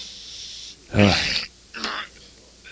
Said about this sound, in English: Okay, we're gonna take a commercial break while this man coughs here. Get all that phlegm out. I got some expectorant.